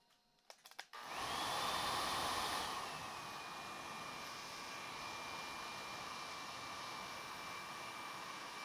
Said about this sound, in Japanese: ドライヤーは上から下にですよ。